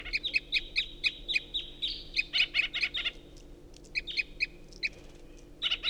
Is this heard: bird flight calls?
yes